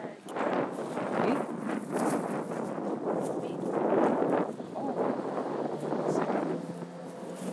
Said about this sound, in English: Very windy.